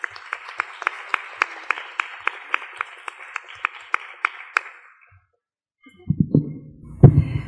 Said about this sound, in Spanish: Entonces, bueno, démosle un aplauso a nuestra compañera